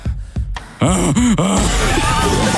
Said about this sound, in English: Listen to the heavy breathing.